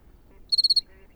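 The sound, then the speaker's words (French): A single short cricket chirp of about five quick pulses, clear, in the Camargue on a cold night below 10 degrees, surrounded by quiet outdoor stillness and a faint low background rumble. “Là, je pense que la température est en dessous 10 degrés parce que je commence à avoir froid au bout des doigts et le grillon a du mal aussi à chanter.”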